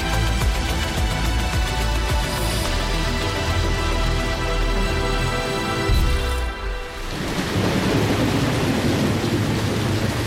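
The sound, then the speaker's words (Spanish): Heavy rain pours down steadily in Málaga at ten in the morning, a loud, dense wash of noise that fills the whole clip, with low rumbling underneath and a brief dip before the downpour surges again. “Estamos aquí en Málaga otra vez y hay mucha lluvia.”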